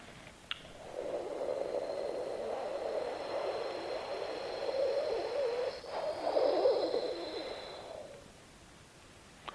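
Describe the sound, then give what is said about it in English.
A long, soft, breathy hooing exhale, like someone gently blowing air out through rounded lips, made during a breathing exercise focused on the spleen and pancreas, steady for several seconds with no talking. “sound coming deep from within. Like you're blowing some flower, which is on your hand, softly, gently away”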